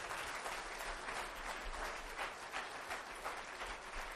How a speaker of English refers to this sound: If your mom was probably the most dynamic impression in your life, I want you to just clap your hands a little bit here this morning.